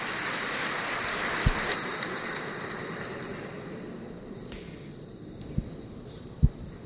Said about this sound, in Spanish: pero ahora ya es un aplauso desbordante, ¿no?, de entusiasmo y de celebración, porque la diócesis ibarense tiene nuevo pastor.